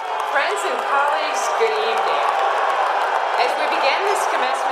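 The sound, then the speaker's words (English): At the Indiana University commencement, a large crowd of demonstrators shouts and jeers as IU President Pamela Whitten approaches the podium, a dense, continuous roar of many voices drowning out scattered clapping mixed underneath, loud and sustained throughout. “Shouts and jeers drowned out applause as IU President Pamela Whitten approached the podium during Saturday's graduation.”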